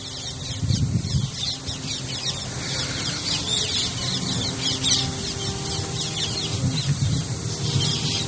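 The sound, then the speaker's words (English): A flock of parrots at Giriraj Govardhan chatters and screeches nonstop, many overlapping calls forming a dense, steady din, with no voices present. “Think those parrots are bringing the messages of your prayers to Krishna.”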